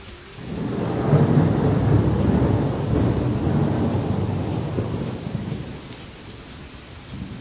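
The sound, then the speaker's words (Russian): Heavy rain pours down steadily in a dense hiss, with low rumbling thunder swelling early on and slowly fading, no voices present. “Дождь лил, лил и лил, а он спал, спал и спал.”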